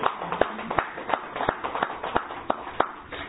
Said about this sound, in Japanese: 皆さん盛大な拍手でお祝いを。